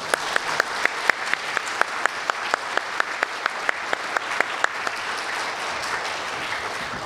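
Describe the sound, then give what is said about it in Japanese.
A church audience at Tsuchiura Megumi Church applauds three students going on to further study, steadily, with sharp individual claps standing out in a quick regular rhythm over a dense wash of clapping that fades slightly toward the end. “3人の進学生にエールを込めて拍手で送りましょう。”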